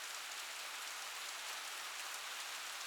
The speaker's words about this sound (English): Why rain? Seriously? Why? Nyeh. I like you when I'm inside and all cozy. Not walking home.